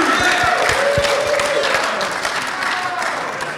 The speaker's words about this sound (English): Oh, who's clapping for that? Seriously?